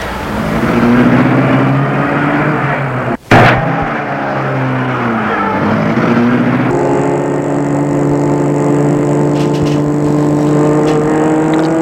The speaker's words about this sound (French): Il soupire. Et met la voiture en route.